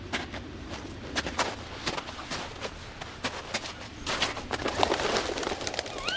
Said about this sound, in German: Die Eule. Sie fliegt davon. Sieht so aus, als hätte sie ihren Auftrag erfüllt.